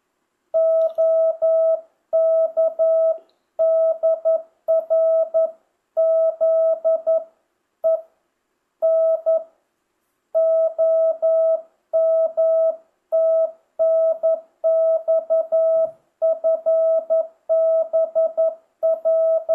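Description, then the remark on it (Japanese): A steady single-pitched Morse code tone keyed in short and long bursts as an amateur radio reply sending a name, sent only once, and a JCC number, forming spaced groups of characters over about twenty seconds, loud and clear with silent gaps between words and no voices. “ここは返答なんで、名前一回しか打ちませんけれども、ちょっと間隔空けますので。”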